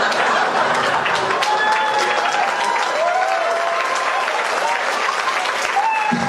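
A crowd bursts into sustained applause, dense clapping filling the whole stretch at steady loudness, with a few whoops and cheers rising above it.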